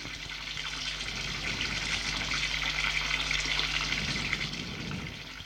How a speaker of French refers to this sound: En allant dans le couloir, il entend le bruit de la douche.